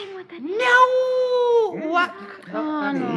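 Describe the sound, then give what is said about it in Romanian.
A person's voice imitates a cat's meow with one long, drawn-out wailing cry that rises and falls, followed by a few shorter, broken vocal sounds, fairly loud. “Nu e bine. E un miunat de pisică.”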